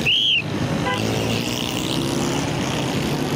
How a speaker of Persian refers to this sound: سر و صدا زیاد است. من عصبانی میشم. مگر چی کردم میتوانم؟ من باید ترافیک را تنظیم کنم. اما اینجا بسیار سر و صدا است.